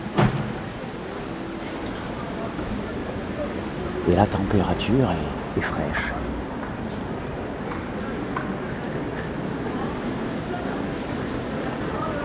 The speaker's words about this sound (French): Il y a autour de cette gare aussi un petit parc avec des arbres. Le vent bruisse dans les feuillages. Il est même fort.